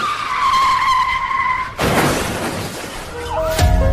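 A speeding car brakes hard at a zebra crossing, its tires letting out a long, high, steady screech that cuts off into a loud crunching burst of impact and scattering noise, followed by fainter rattling debris.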